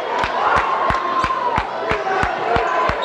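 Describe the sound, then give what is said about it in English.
A basketball arena crowd, on its feet with 31.8 seconds left in a one-point game between Moberly and Kirksville, cheers and roars continuously, with loud, steady rhythmic thumps, like stomping or drumbeats, pounding about three times a second beneath the noise. “The crowd on its feet.”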